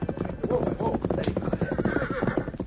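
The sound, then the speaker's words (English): A horse named Victor trots, hooves clip-clopping in a steady rhythm, and lets out a loud, wavering whinny partway through as it is ridden from a livery stable into the hills beyond the town of Red Rock toward a camp. “He rode into the hills beyond town and soon approached the camp where the Lone Ranger and Tonto were waiting.”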